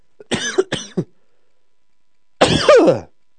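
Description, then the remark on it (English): Several loud coughs from a chest cold come in a quick burst of three, followed after a pause by a longer, rasping throat clearing, with no talking. “Sorry, I've got a little bit of a chest cold going on there.”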